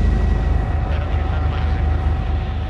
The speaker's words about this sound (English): So the helicopter is now taking us towards the area of Santa Fe, where many of the wealthiest members of Mexico City live.